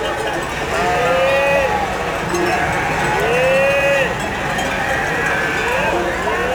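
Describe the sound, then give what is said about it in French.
A flock of ewes bleats repeatedly in a pasture shared with Gascon cows, drawn-out calls overlapping, with faint clanking bells and a steady outdoor rustle underneath. “D'un côté, les vaches gasconnes, et de l'autre, les brebis.”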